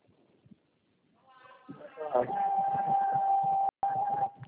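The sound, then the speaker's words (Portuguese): A steady, mid-pitched electronic beep sounds on a phone line, holding for about two seconds with one brief cutout, over a muffled murmur of voices and line noise. “De repente ficou apitando, né?”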